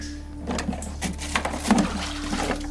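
Quiet sloshing and dripping water as a mobile phone is lifted out of a toilet flush cistern, with a few soft splashes over a steady low hum.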